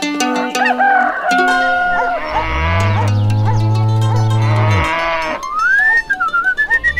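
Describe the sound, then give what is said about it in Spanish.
A cow named Margarita lets out one long, loud, low moo in a barn (a stable), with other farm animals calling around it, including crowing and bleating, before and after. “Esta es la vaquita más linda de mi establo, Margarita.”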